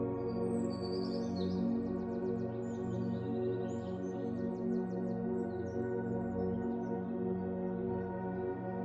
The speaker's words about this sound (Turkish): Kuş cıvıltıları size huzur veriyor.